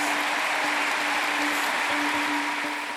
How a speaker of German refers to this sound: Der Applaus galt allerdings gar nicht Friedrich Merz, sondern seiner ehemaligen Erzrivalin in der Partei, Ex-Kanzlerin Angela Merkel.